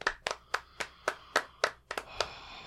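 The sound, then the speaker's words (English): About ten sharp hand claps after a basic card trick, in a loose, slightly uneven rhythm, fairly loud, like one or two people clapping briefly, with no voices. “So what do we do now? Clap? Yeah, sure.”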